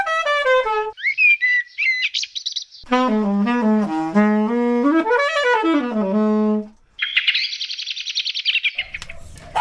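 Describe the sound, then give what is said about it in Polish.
Birds singing outdoors at a quiet home about a kilometre from the Czech border, in bright, varied phrases of whistles, trills and rising chirps, one song following another with brief pauses, clear, with no voices. “Tutaj jest dom, przyjeżdżam, tutaj jest spokój, cicho, nie ma ludzi, jest dużo zwierząt i nasze ptaki.”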